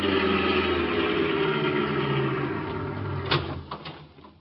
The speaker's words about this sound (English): We jumped into a car and drove over.